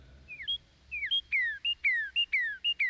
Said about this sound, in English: Look how they run, the animals. See where they flee, the birds. Now, hear what they sound like as they travel far and fast.